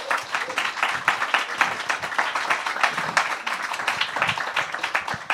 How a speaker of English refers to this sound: Please give them a warm round of applause.